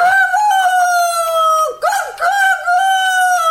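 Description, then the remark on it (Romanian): A rooster crows loudly just past midnight in one long, drawn-out call, its strained, harmonic voice dipping and breaking briefly midway before carrying on steadily to the end, with no other sounds around it. “Te-a găsit cântatul la miezul nopții.”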